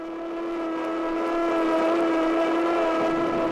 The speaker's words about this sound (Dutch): Luisteraars, u hoort het. En wat u niet ziet, dat zien wij, dat is dat over het water van de Schelde de grijze rookpluimen driftig omhoog schieten. Dat zijn de rookpluimen die uit de sleepbootjes komen, de sirenes die klinken.